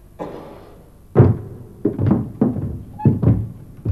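A scuffle of dull, heavy thuds like punches landing, about eight blows in an irregular rhythm, some in quick pairs, each a low muffled thump with no voices.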